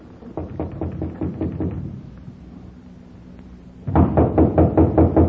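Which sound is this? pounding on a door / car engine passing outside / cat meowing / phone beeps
pounding on a door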